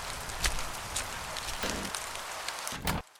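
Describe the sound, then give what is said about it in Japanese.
Heavy rain of the rainy season pours down in a dense, steady hiss, with a few louder spatters and splashes breaking through before the sound cuts off abruptly. No one speaks. “いつもこんなに雨が降るんですか？”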